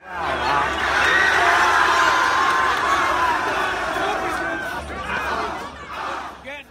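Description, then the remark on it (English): A large crowd of young voices, students led by a classmate, chants and cheers loudly together outdoors at the steps of the Lincoln Memorial, a sustained roar of shouting with rising whoops that swells, dips briefly, then surges again near the end. “He looks at the black Hebrew Israelites for a moment, and then he leads his classmates in another chant.”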